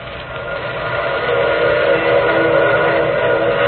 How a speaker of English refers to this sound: Wasn't that a train whistle?